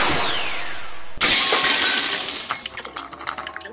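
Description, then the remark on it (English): A video game laser cannon fired by the computer opponent from block 18: a descending whine sweeps down, then a loud sudden blast bursts out and fades into glittery, crackling debris. No voices. “Computer launch laser cannon from block 18.”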